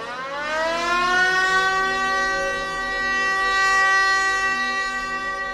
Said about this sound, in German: Nach 10 Minuten schon gellen die Sirenen. Kein Wunder, hat Regisseur Michael Sturminger doch einen Angriff mit Sprühfarbe auf den Palast seines Titelhelden inszeniert.